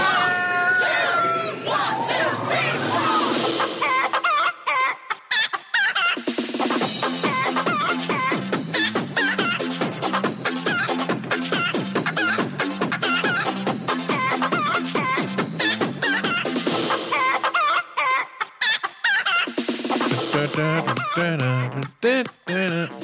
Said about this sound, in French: Puis là, tu vois les poules qui le regardent. Non. Toute la gang sont là. Poules! Les poules à l'attaque!